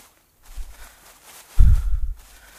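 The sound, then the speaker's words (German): Heavy footsteps thud, a couple of softer steps followed by a louder cluster of low, dull impacts, with faint rustling in between and no talking. “aber könntest du ein bisschen langsamer gehen? Deine Schritte sind viel größer als die meinen.”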